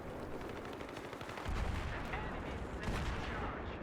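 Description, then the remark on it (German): Rapid bursts of video game gunfire crackle continuously, dense and loud, with a heavier volley kicking in partway through and sharp repeated shots layered over the din. “Warum fliegen hier Schüsse rum?”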